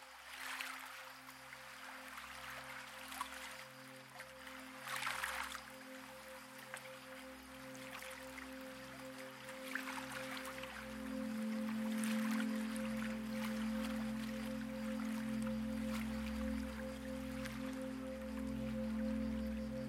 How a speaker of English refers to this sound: You're standing on a wooden dock, and blue-green water is lapping gently at a stone wall. With each tiny wave, the water leaves its imprint on the stone.